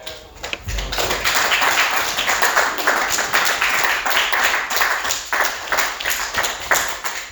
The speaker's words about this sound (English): Let's give both of these great examples another round of applause for taking their value.